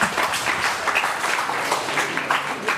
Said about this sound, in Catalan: Llavors, ara mateix et diré que us feu un aplaudiment a vosaltres mateixos. Vinga.